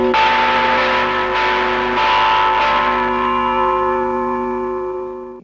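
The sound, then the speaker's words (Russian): The largest church bell is struck loudly in an alarm toll (nabat), about four times in quick succession, with a deep, ringing hum that swells and slowly fades at the end. No voices. “Вот это тревожный звон, когда набат бьют.”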